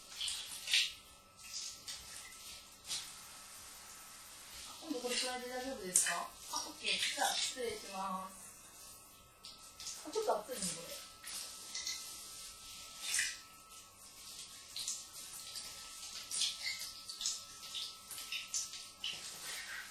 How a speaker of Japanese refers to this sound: ちょっとシャワーの温度調節してくるね。